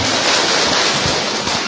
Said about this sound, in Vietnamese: Chúng ta cho một tràng pháo tay để mời hai con.